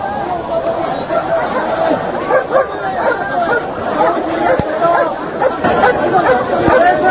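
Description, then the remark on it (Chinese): A dense, agitated crowd in Hong Kong chatters and shouts continuously, some shouting against the use of a dog, while the dog barks intermittently within the din, the barks partly buried under the loud, overlapping voices. “咪撚用狗啊！”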